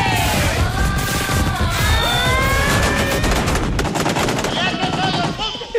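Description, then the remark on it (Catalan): Mossos d'Esquadra riot police charging to clear a queue of people: a loud, chaotic commotion of shouting and screaming voices over continuous rapid cracking and banging, with high-pitched cries rising above the din throughout. “Sentim el moment de la càrrega i les explicacions de Felip Puig.”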